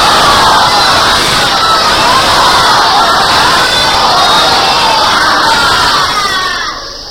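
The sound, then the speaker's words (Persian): A large crowd loudly chants the salawat, a religious blessing, in unison, a dense, sustained roar of many voices that holds steady for several seconds before tapering slightly at the end. “خدا انشاءالله به همه تون توفیق بده و امشب اموات همه را بیامرزه صلوات بلندی خلق.”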